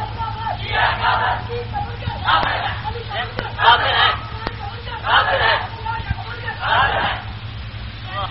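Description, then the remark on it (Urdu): A crowd chants slogans in unison, five loud shouted phrases rising and falling in a steady rhythm about every second and a half, over a constant low hum. “بھائی نہیں, یہ نہیں, اس قسم کے نعرے مار کتا دلا بلا یہ چھوڑ دو باتیں, اس لیے کہ یہ نچلی سطح کی باتیں”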